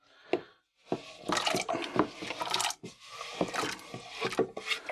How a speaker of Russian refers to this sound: Давайте картошку мы порезали, сейчас да. Забросим ее. Закидывайте. В воду.